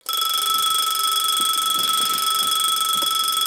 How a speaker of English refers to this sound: I turn off my alarm and go to sleep.